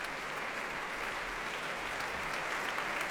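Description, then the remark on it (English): Sustained applause from a large concert audience and orchestra welcoming a pianist back to the stage, a dense, steady wash of clapping with no pauses, moderately loud and even throughout. “Back he comes, the dapper figure, warmly welcomed back and applauded by orchestra as well as audience.”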